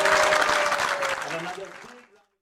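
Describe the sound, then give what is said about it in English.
Audience applause for a tabla player on the Rhythms India show on CITR Radio 101.9 FM, a dense patter of many hands clapping, with a faint voice running beneath it, gradually thinning and fading out after about two seconds. “Please give a big round of applause for my tabla player here.”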